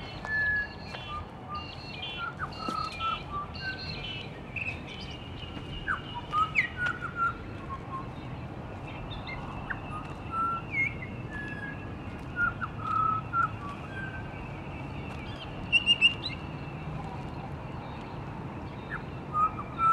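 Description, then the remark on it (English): A pied butcherbird that mimics other bird species as well as animal and man-made sounds sings scattered phrases of clear, fluting whistles and chirps that imitate other birds' calls, over a steady outdoor hiss. “I shared one of these when we discovered a pied butcherbird that mimicked other bird species, as well as various animal and man-made sounds.”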